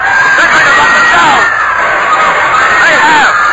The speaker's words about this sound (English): The boat is jammed with sightseers. They're shouting and calling out that they want to have a look at bony parts